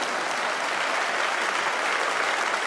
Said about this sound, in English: That wasn't even a smattering of applause. That was almost like mocking applause, right?